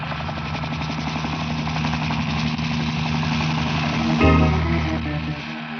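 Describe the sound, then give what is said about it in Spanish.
A helicopter flies over a ship, sweeping from side to side of it, with a steady, throbbing rotor chop and engine drone, loud and continuous, swelling slightly near the end with no voices. “El helicóptero se desliza ágilmente, recorriendo el barco de lado a lado.”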